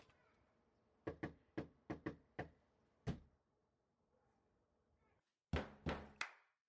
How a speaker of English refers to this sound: So this guy, it's almost kind of a take on that where it's this is how drummers knock on doors. See how many songs you guys can name when we start listening to them.